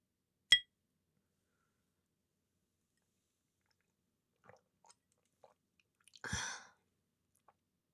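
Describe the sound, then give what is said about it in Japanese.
A single bright clink of glass rings out as a toast is made with alcoholic drinks, followed by quiet sipping and swallowing sounds, then a short satisfied exhale, with no talking. “若干飲んでますんで、ヘロヘロするかもしれないけど、ごめんね。というわけで、乾杯。”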